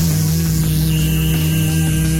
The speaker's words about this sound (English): and the thing that annoys the hell out of me, and I'm sure you know exactly what I'm going to say, what is up with the horns? It sounds like the stadium is being attacked by killer bees.